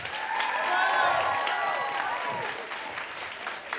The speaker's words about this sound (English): And clap if you have the good fortune of not having seen it. All right. A smattering. Okay. And then also clap if you've heard our show before.